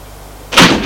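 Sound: door opening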